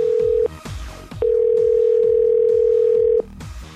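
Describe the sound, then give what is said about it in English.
A steady electronic phone ringing tone sounds in two bursts, a short one then a long two-second one, loud and clear over quieter rhythmic music in the background. “But we do have a phone call to make.”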